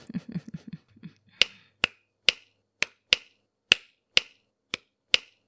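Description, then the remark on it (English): After a few soft, low murmuring sounds, about nine crisp finger snaps ring out on their own at a steady, slightly uneven pace, each one sharp, bright and quickly fading. “And that's when the snapping resumed.”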